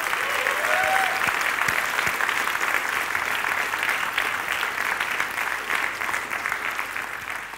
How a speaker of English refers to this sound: And if you agree, please give a big round of applause to them.